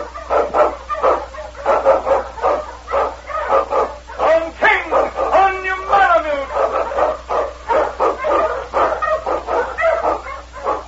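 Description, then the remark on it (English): King, an Eskimo lead sled dog, barks loudly and repeatedly in quick, rhythmic bursts while blazing a trail through storm and snow in the Yukon, with a brief high whining yelp partway through before the barking resumes. “King, swiftest and strongest of Eskimo lead dogs, blazes a trail through storm and snow for Sergeant Preston as he meets the Challenge of the Yukon.”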